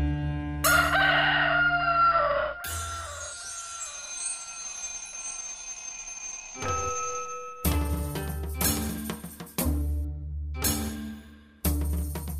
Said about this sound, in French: La lumière est victorieuse lorsque le coq se réveille au soleil et la nuit se retire.